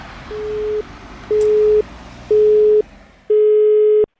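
A telephone busy tone after a call disconnects: four steady beeps, each about half a second long, evenly spaced over faint background noise, with the last beep slightly longer and clearer.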